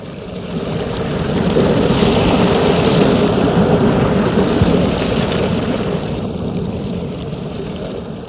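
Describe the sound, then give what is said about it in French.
A continuous roar of sea waves washing onto the shore at sunset, swelling louder in the middle before easing back slightly, with no voices present. “Pas de bruit, seulement le bruit des vagues.”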